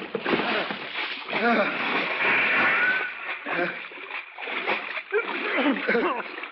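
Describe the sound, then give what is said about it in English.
A heavy splash as someone jumps over the side of a boat into cold water, followed by continuous sloshing and churning, with voices calling faintly underneath the rushing water. “Jack, the water's awful darn cold from a Saturday night tub.”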